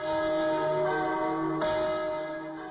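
Church bells announcing, at 6 p.m. on a Friday, the start of the Night of the Churches ring out loudly. Their sustained, overlapping metallic tones hang in the air, and a fresh strike lands partway through. No voices are present.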